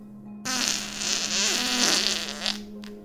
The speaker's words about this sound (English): I sat up, yawned, and let out my regular routine morning fart.